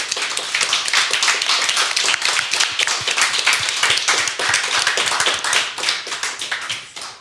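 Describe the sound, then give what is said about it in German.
A crowd on the Cyber Morning Show applauds to welcome guest Steffen Seibert of the German government, with dense, continuous hand clapping that holds steady and loud for several seconds, then thins out and fades near the end. No one speaks. “Wir bitten da kann man ruhig mal klatschen.”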